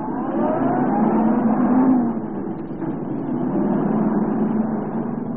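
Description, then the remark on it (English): A police car's engine runs loud and steady, its pitch rising and falling slightly as the car accelerates and is moved off the highway to face west, with no voices over it. “Reynolds, move our car over off the highway and face west.”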